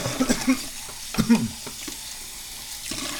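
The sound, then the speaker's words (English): Soapy dishes being rinsed under a running tap, a steady wash of water with a few quick knocks and clinks near the start, then a smoother, quieter stream. “Let's listen to a guy, you know, washes dishes.”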